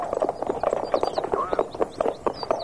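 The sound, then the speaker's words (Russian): Horses' hooves clip-clop in a quick, steady rhythm, fairly loud, with high chirping sounds scattered above the beat, as a woman drives the horses herself in place of the coachman. “А ну, кучер, пошел вон. Я сама с лошадьми управлюсь.”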